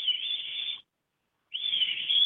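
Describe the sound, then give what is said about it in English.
Two sustained, high whistled tones separated by a short pause, a person mimicking a bird call; the second whistle bends slightly upward before leveling off. “I can make the sound if you'd like.”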